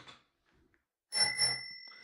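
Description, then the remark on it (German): A bicycle bell rings twice in quick succession, fairly loud, its bright metallic tone lingering and slowly fading afterward. No one speaks. “Die Klingel ist natürlich jetzt auf der anderen Seite.”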